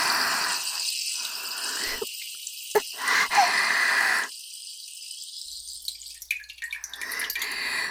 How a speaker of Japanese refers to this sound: 申し訳ありません。ご主人様への愛が溢れて、おしっこ、たくさん出ちゃいました。